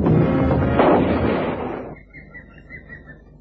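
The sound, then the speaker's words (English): A single heavy shot from a big rifle, fired at a crocodile, booms out loud, its rumbling echo rolling away over about two seconds, leaving birds chirping faintly in the quiet afterward. “I had to shoot. Your bullet did its job, Carrie.”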